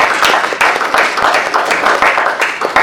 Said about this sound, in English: I had a prior commitment on Friday, and I missed the chief's accepting the award, so I'd like everybody here to just give a little round of applause